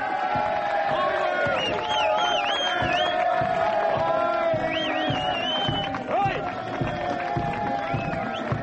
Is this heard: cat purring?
no